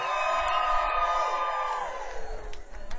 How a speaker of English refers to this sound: All right, let's get the crowd. You guys go crazy. Let's get those lights up. 1, 2, 3. Levitt Pavilion, Pasadena, make some noise. 1, 2, 3.